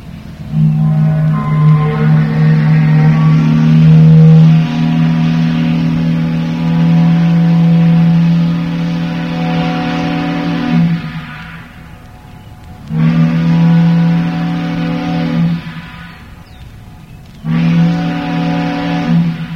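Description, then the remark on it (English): The deep steam whistle of the Sam Craig, a Union Barge Line towboat, sounds one long, loud blast of about ten seconds, then two shorter blasts after brief pauses, its rich, reedy tone ringing out with no voices. “Coming up now is a whistle from the Sam Craig.”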